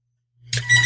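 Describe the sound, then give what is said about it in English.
A telephone starts ringing after a moment of silence, a bright, trilling electronic-bell tone that rises quickly and holds loud to the end, with no voices. “Could you hear my phone ringing?”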